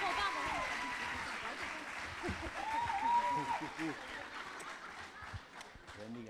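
An audience claps steadily for several seconds to welcome a nine-year-old preacher, a dense crackle of many hands mixed with scattered cheers and a rising whistle, then the applause thins slightly toward the end.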